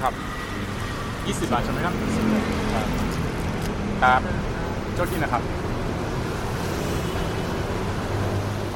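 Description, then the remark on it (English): A constant, dense roar of road traffic echoes off the concrete slabs that support the elevated SkyTrain tracks overhead, with brief passing engine surges and faint, indistinct voices mixed into the hum. “The sound of traffic echoes all around all of them, off the concrete slabs that support the SkyTrain.”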